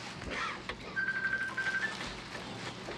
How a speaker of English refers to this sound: Now see, if we were in my classroom, I would snatch that phone up and I would answer it in front of everybody.